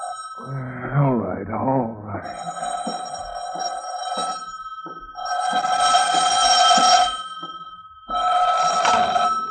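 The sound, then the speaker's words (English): A telephone bell rings in two loud, long bursts separated by a short pause, with a steady background tone throughout and a brief voice at the start. “You must forgive me for calling you, but...”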